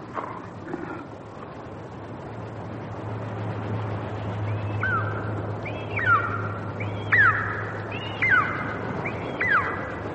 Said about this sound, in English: The eagle. Your totem. Like Yonami's son. Flying away at last. Sea eagle. That's all, Jack. Beautiful and very rare. But just a bird.